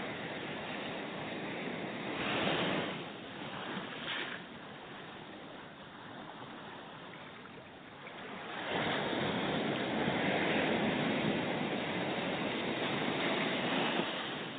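ocean waves

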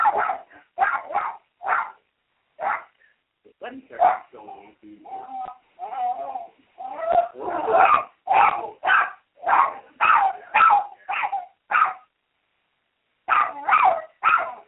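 dog barking

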